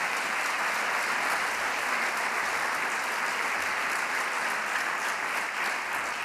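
Steady audience applause for Dr. Joyce and colleagues' work on printed electrical sensor technology, a dense wash of many hands clapping at an even, sustained level throughout, with no voices standing out.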